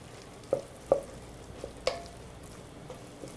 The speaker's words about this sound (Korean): 다시마는 건지고, 이 냉이에다가 양파를 좀 넣고 일단 한번 섞어보세요. 자, 양파를 한반 정도는 이 냉이밥에 넣으시고 잘 버무리시고요. 잘 버무리셔서.